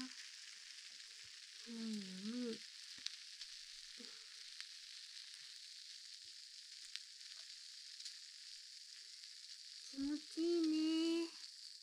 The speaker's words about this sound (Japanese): 炭酸の音って気持ちいいもんね。